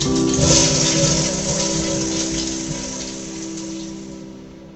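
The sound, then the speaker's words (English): A toilet flushes with a loud, steady rush of water that slowly tapers off over about five seconds, a faint low hum running underneath. No one speaks. “Sitting on the toilet. Now flush.”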